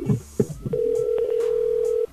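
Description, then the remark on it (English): A telephone handset clatters and clunks down, then a steady, loud dial tone hums for over a second before cutting off abruptly. “So you just hang up that phone.”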